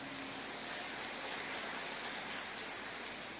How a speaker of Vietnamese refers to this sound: Và một tràng pháo tay để tri ân hòa thượng Thích Thiện Hoa.